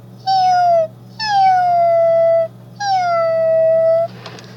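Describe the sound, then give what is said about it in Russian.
A person imitates a cat with three drawn-out, falling meows, loud and separated by short pauses, followed by a brief breathy rustle at the end. “Будет четыре животных, кошечка, собачка, ежик и что-то типа наподобие рыка тигра.”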